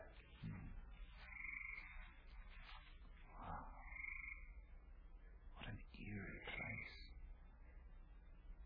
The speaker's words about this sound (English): Frog marshes.